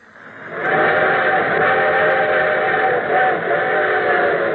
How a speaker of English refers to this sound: And here comes our summer show train.